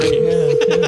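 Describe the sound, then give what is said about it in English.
A steady telephone ringback tone hums for nearly a second, the ringing an outgoing caller hears, loud, with faint voices murmuring underneath before it cuts off. “Hey, is the phone ringing?”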